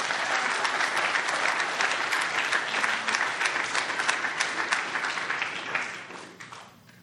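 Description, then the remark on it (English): A crowd at a recovering alcoholics' meeting applauds the speaker after the talk, a dense wash of many hands clapping at once, holding strong for several seconds before thinning out and fading toward the end. No one speaks over it. “Let's hear it one more time for our speaker.”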